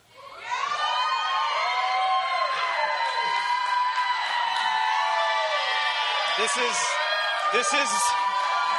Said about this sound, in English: Okay. This is my built-in cheering team. This is our act school, so they will do that regularly, I'm sure, again, when I introduce these guys.